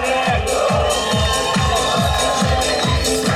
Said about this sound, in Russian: Все! Поднимайте руки, давайте хлопать! Молодожены!